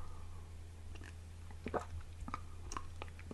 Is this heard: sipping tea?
yes